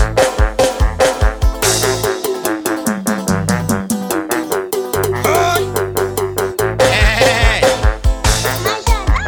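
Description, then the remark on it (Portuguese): A billy goat bleats over and over in loud, wavering cries, nearly nonstop, with short pauses between calls and no talking. “Ei, rapaz, esse bode é meio doido, viu?”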